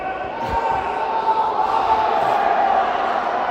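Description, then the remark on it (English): A sold-out arena crowd at a football game roars and cheers continuously after a win, a dense wash of many voices sustained at high volume throughout, with no single speaker standing out. “God, sold out crowd. All of that. It's just beautiful.”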